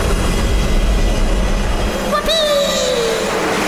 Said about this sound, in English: Whoosh! The rocket shot off the roof and into space. It went very, very fast.